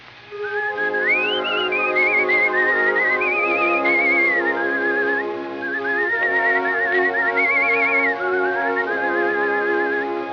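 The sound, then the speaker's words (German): A gentle whistled melody with wavering vibrato rises and falls in slow phrases, carried over soft sustained instrumental chords throughout, with no voices. It is a goodnight song whistled as Herr Spatz, a sparrow in a bird-wedding tale, bidding his bride good night. “Er wünscht ihr durch folgendes Lied gute Nacht.”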